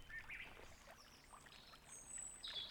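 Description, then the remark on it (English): Gentle lapping and trickling water at a lake on a property, soft and continuous, with faint bird chirps in the background of a quiet outdoor scene. “Do I hear water?”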